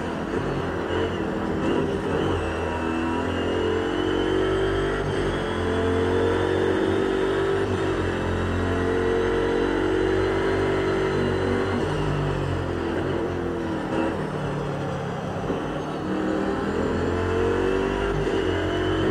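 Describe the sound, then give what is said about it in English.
A racing car engine roars continuously on the final lap of a circuit, its loud, buzzing pitch climbing and dipping as it brakes into the Coppice corner, accelerates and shifts through gears over about twenty seconds, with no voices. “Coppice this time on the brakes. Yeah, there we go. Kissing that apex, letting the car miss the second one slightly, running it just wide is to keep the power on.”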